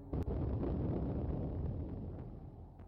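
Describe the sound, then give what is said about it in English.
A rigged snow truck explodes with a sharp, sudden crack followed by a deep, heavy rumbling roar that stays loud and slowly fades over a few seconds. No voices are heard. “Ah, you rigged the snow truck.”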